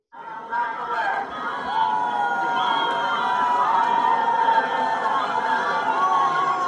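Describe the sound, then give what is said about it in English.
A large outdoor crowd at the Pride Parade in New York boos a senator loudly and steadily, a thick wash of jeering voices that swells right at the start and holds for several seconds without a break. “In the parade, they hardly knew he was there, and they're booing him.”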